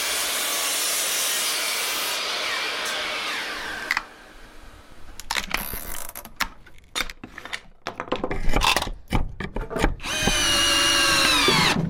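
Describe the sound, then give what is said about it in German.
A loud miter saw whines as it cuts thick wooden beams to about 75 cm for table legs in a workshop. It is followed by a stretch of clattering knocks and handling noise, then the motor spins up again, harsh. “Und dafür verwende ich die Kappsäge, was sehr laut ist.”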